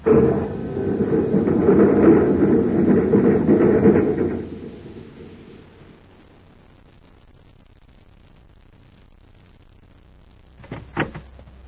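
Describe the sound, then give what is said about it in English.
A heavy, roaring rumble surges for a few seconds as a magnetic car with a self-contained power unit moves off down a shaft, then fades to a quiet hum; near the end, a couple of sharp knocks sound like its door shutting. “Magnetic car. Self-contained power unit. You can zip down the shaft and come back with food and ray guns.”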